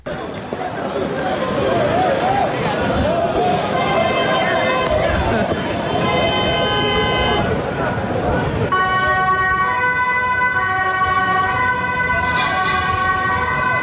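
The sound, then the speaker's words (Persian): Wailing emergency and police sirens blare continuously over loud street noise and traffic in Amsterdam, Netherlands, on a Thursday after a football match, amid group clashes and mass arrests. A crowd of voices shouts and talks underneath throughout. “صدای آژیر اورژانس و پلیس و بازداشت‌های گسترده.”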